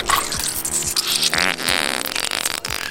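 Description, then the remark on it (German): A comic sound effect of a skunk spraying foul-smelling liquid at an attacker's face: a loud, continuous hissing spray mixed with wet, sputtering, fart-like pops, lasting about three seconds with no voices. “Unser Tier sprüht dem Gegner eine unglaublich stinkende Flüssigkeit direkt ins Gesicht.”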